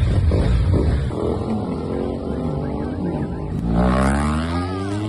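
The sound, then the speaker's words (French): Loud engine roar with rising and falling pitch, suggesting large motorcycles of a bikers' club revving and passing during a demonstration in the town of Agadez, the sound swelling again near the end. “Après une petite démonstration en ville, les Sahel Bikers sur leur grosse moto ont attiré l'attention de motocyclistes, en l'occurrence les conducteurs de taxi-moto, kabu-kabu, sur l'importance du port de casque.”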